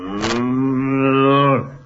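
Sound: cow mooing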